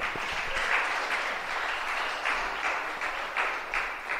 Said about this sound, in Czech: Dobře, tak to můžeme počítat za správně uhodnotou dvojici. Já myslím, že můžeme zatleskat.